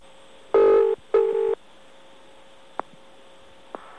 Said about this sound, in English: For instance, in Brighton, phone numbers used to be 5 digits long. Well, listen to what happens if you dial the old 5-digit number.